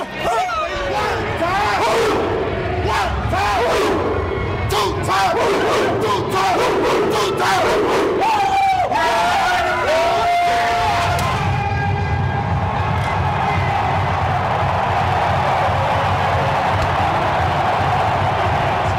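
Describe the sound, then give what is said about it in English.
A large stadium crowd at a Thursday night football game in Minneapolis, Minnesota, on a cool evening, roars, cheers and yells continuously, with bursts of shouting in the first half settling into a steady, dense wall of crowd noise. “Oh, man, this crowd is electric.”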